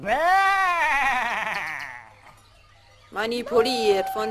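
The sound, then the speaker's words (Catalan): A white lamb bleats loudly, one long wavering cry, then after a brief silence another shorter, quavering bleat follows. “Un xai blanc manipulat per idees xenòfobes que s'endinsava en un món de por i terror.”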